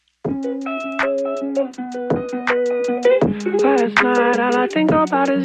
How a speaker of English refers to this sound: Is that your phone ringing?